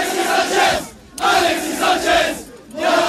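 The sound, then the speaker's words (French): A large crowd of Olympique de Marseille (OM) football fans chants loudly in rhythmic surges amid flares, welcoming new signing Alexis Sanchez as he leaves his plane on Tuesday evening, voices swelling and dipping in waves with brief lulls between bursts of cheering. “Le Chilien a été accueilli donc mardi soir à sa sortie de l'avion comme une rockstar au milieu des champs et des fumigènes.”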